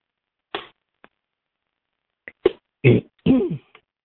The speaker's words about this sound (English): I have a sip of water. Thank you, Lord.